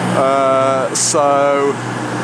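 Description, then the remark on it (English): A very long train rolls through a train station with a steady, loud rumble, and a droning, whine-like tone rises in two stretches over the constant mechanical noise, broken by a brief hiss in between. “I'm really not quite sure how this is going to sound because I'm at a train station and there's one really fuck off massive long train going past.”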